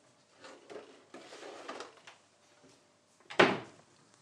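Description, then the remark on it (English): A fridge door shuts with a soft thud and rattle, followed after a short pause by a sharper, louder bang of the cupboard door above the kettle closing. “Close fridge, close cupboard above the kettle.”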